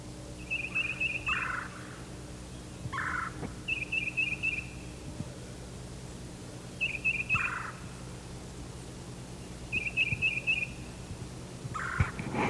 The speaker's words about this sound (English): Now the exchanges are coming from the north. Probably one of the birds that just left his tree.